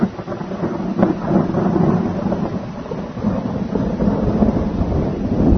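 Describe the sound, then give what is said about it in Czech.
A continuous low rumble of thunder rolls on without pause, swelling slightly in waves, with a steady hiss of cold rain underneath and no voices, in front of a house looking toward Montenegro, Kosovo and the Pešter plateau, with low clouds and mist over the forest. “I evo gromova ponovo, ali kako je veličanstveno, kako je predivno, o Gospode, kako je predivno.”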